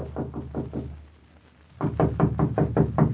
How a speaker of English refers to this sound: Knock on the door, please